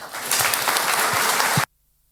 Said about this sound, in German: Bitte einen großen Applaus für Uli Klemann.